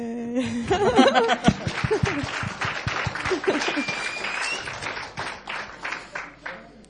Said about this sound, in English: Because you clap when we haven't done anything. Weil ihr klatscht schon, bevor wir irgendwas gemacht haben.